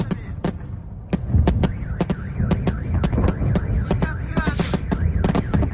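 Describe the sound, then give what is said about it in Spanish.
Air raid sirens warning the population of bombardment during a Russian attack in Ukraine wail and warble up and down over a low rumble, accompanied by a steady series of sharp cracks and pops throughout. “Se podía escuchar las alarmas de emergencia dirigidas a la población por el ataque ruso, mientras sonaban las sirenas que alertaban de los bombardeos.”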